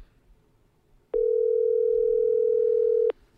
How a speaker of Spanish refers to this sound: Está sonando ya el teléfono de Félix del Val